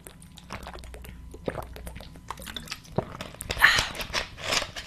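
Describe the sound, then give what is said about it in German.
Someone takes a sip of water: a series of soft, wet mouth and swallowing sounds with small clicks and gulps, growing a little louder near the end, with no talking. “Erstmal trinke ich einen Schluck Wasser.”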